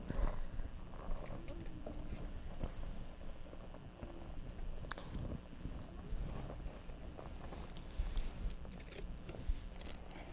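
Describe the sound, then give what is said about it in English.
A pet bird imitates horse hooves: repeated hollow clip-clop clicks tap along fairly steadily over a gusty, rumbling background with some faint murmuring. “He can sound like horse feet. Clop, clop, clop.”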